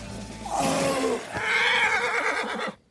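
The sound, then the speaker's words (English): A horse whinnies loudly in pain, a strained cry that starts lower, then breaks into a shrill, wavering neigh lasting a couple of seconds before cutting off. No voices accompany it. “And instead of swiping you off your horse, Father, it barely manages to nick Jehovah with the end of a long fingernail.”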